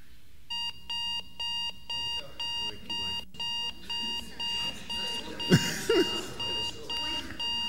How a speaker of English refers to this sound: Right, what sort of alarm is that? Yeah, a clock alarm, isn't it? Digital alarm clock.